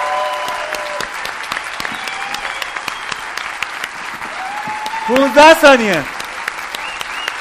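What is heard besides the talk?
audience clapping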